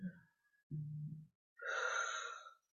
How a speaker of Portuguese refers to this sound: Fazemos uma respiração profunda.